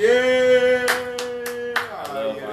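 A handful of sharp hand claps land at a steady, even pace over a sustained droning tone, loud rather than a crowd's applause.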